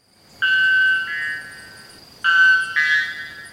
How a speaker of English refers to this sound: And all white bellbirds can be found in northern Brazil and southern Venezuela in the Amazonian cloud forests.